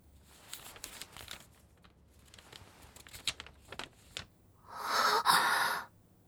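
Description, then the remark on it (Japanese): Paper rustles and crinkles close up in a string of short crackles, then a louder, sustained unfolding rustle near the end, as if a letter is being opened and spread out. No voices. “これはお手紙？”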